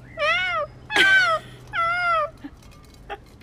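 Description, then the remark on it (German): A voice imitates screaming cats with three drawn-out, wavering yowls, each about half a second long, fairly loud, followed by a few faint clicks. “Ich weiß nicht mehr genau, wie ich es gesagt habe, aber es hat sich angehört wie schreiende Katzen. Es war ungefähr so.”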